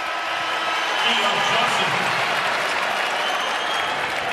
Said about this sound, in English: It's a wraparound offensive foul on Keon Johnson. Ty Jerome calling for the crowd applause as he forced a turnover.